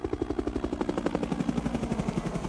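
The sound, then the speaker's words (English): A helicopter's rotor beats in a steady, rapid thumping chop, even in loudness throughout, with a low engine drone underneath and no voices. “By the time the last helicopter had left Saigon, Kriegsspiel needed to be reinvented.”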